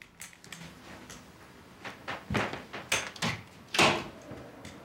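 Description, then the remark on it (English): A door is handled as a man with a crutch stands and steps out: a series of sharp knocks and clunks, building in loudness, ending in a firm thud near the close, with no talking. “Then he picks up his crutch, stands, and steps out the door.”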